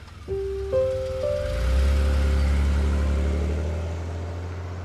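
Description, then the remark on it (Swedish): A car engine starts and revs up, then settles into a steady low rumble as a couple drive home, fairly loud, with no talking. “Mattias och hans sambo sätter sig i bilen och åker hem.”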